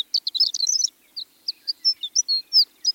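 A male horned lark sings a high, tinkling song while hovering about 100 feet in the air, wings fluttering, over an open landscape of short grasses: a rapid jumble of thin chirps followed by a string of separate bright, sliding notes, clear and alone against a quiet background.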